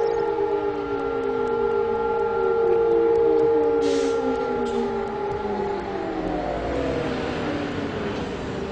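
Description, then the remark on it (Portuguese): A sustained wailing memorial air-raid siren tone with several pitch bands that slowly slide downward, ringing over a steady background rumble of traffic on a main highway of Israel's capital where drivers stopped their cars, with faint brief hisses along the way. “Ao ouvirem as sirenes, todos deixavam de fazer suas atividades e paravam.”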